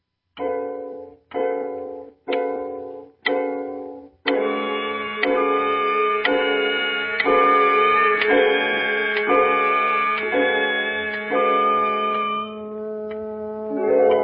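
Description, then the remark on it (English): A clock ticks loudly, with four spaced, ringing ticks followed by a steady, unbroken run of resonant ticks that fades near the end. No one speaks. “You continue to pace the room, glancing occasionally at the clock.”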